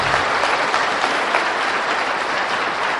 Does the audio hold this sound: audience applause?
yes